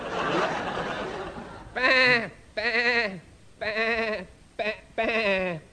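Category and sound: vocal imitation, voice imitating sheep bleating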